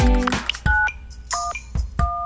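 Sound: telephone keypad dialing tones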